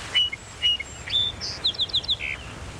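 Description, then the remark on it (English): A song sparrow sings a short song: a few clear, spaced opening notes, then a quick run of repeated chips ending in a buzzy note, alone. “And it all started with a song sparrow.”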